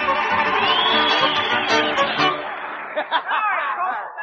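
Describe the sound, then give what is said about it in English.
A Grand Ole Opry audience breaks into loud, sustained applause mixed with cheers, whoops and laughter for Archibald Camel, the sage of Bull's Gap, Tennessee, a dense roar that eases slightly toward the end with a few sharp shouts. “So let's have a great big round of applause for the sage of Bull's Gap, Tennessee, Archibald Camel.”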